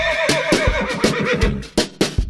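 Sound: horse neighing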